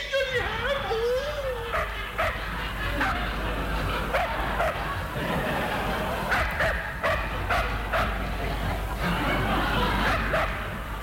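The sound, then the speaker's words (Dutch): A small dog barks and yaps repeatedly in short bursts over a busy, noisy background, with what sounds like some laughter mixed in. “Hier is mijn kleine hondje.”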